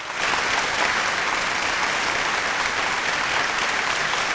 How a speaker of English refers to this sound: But I will give Peyton, if it was his final game, a nice round of applause.